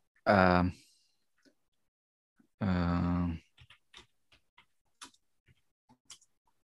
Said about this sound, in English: Seriously typing into the Google to find.